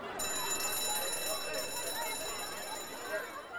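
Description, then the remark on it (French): A school bell rings steadily with a shrill, high metallic tone that holds for several seconds in front of a school, while a murmur of voices carries on underneath. “Nous voici devant l'école, la cloche a sonné.”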